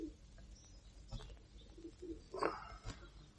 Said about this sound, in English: Oh, Mum used to hate the din they made. The pigeons? Yeah. Said it got on her nerves. All that cooing. I used to like it, though. It's soothing, in a way. Yeah. I'd lie in bed of a night, just listening to them in the shed out the back.